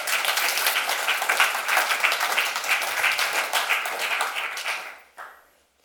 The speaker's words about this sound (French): C'est un super boulot. On peut applaudir, effectivement.